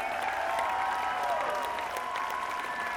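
A concert audience applauds steadily for three seconds during the encore, a dense wash of clapping with scattered sharp claps, while a sustained, wavering musical tone rings underneath.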